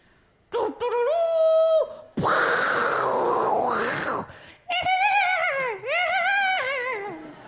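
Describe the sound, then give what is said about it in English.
A person vocally imitates a horse as a sound-effect clue for the film War Horse: a loud held cry, then a long rough, raspy breathy burst, then a quavering, warbling whinny-like call that wobbles in pitch before fading. “War horse.”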